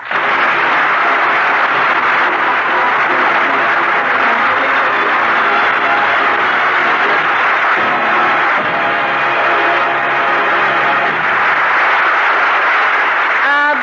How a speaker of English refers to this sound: Bless you all for that applause.